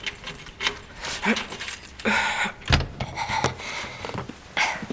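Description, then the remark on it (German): Office keys jangle in several bright metallic bursts, followed by a clunk like a lock turning and an office door being opened, with soft rustling between. “Nehmen wir doch einfach die Schlüssel.”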